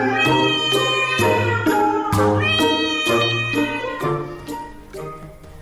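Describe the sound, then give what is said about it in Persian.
A domestic cat meows loudly and insistently, a quick run of about ten drawn-out, tonal cries in steady succession, easing slightly toward the end with no voices present. “بر همین اساس تا اینجای کار دانشمندان میگویند این میو میوهای معروف گربه ها بیشتر برای ارتباط گربه های اهلی با دوستان دوپایشان استفاده می شود.”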